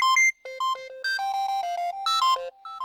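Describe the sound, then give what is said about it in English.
A bright electronic phone ringtone plays a quick, bouncy melody of short synthetic tones, loud, with brief pauses between note clusters and no talking. “Here, you want to hear my ringtone? I'll play it for you.”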